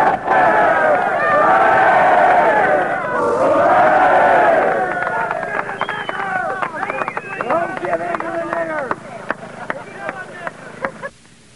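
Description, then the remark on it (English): A crowd at a Ku Klux Klan rally near Saugus, California, on September 17, 1966, shouts a loud, drawn-out "hooray" in unison twice, each cheer swelling and then fading, followed by scattered voices, chatter and a few sharp knocks. “Three cheers for the white race. Hip, hip.”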